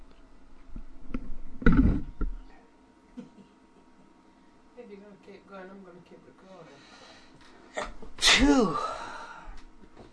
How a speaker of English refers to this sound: Achoo. No. Achoo.